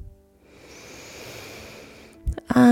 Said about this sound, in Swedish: Så gör dig redo, så ska vi börja. Andas in.